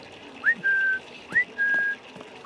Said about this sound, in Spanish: Yo le digo perro y lo llamo con un chiflido para que venga a comer.